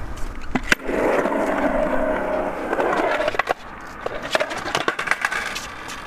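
A skateboard rolls with a steady grinding rumble for a few seconds as the rider attempts a rock and roll trick on a new board, then a sharp clack and a series of scattered, uneven knocks as the rider drops off the board without falling over and the board clatters.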